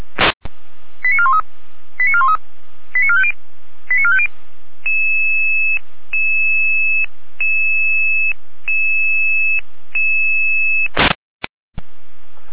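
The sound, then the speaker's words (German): A radio pager follow-up alarm for an emergency in Rudelstadt: four quick groups of chirping tones, then a steady high tone repeating in long pulses with brief gaps, bracketed by short bursts of static at start and end. “Folgealarmierung.”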